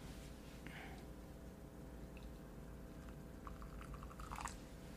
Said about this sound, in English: So I'll put in two scoops. I put in a large scoop and a smaller scoop. And then I pour the water in.